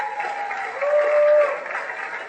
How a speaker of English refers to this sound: Let's clap for ourselves once again.